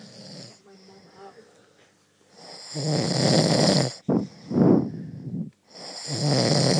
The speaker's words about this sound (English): Barry, how loud does he snore? It's pretty fucking loud.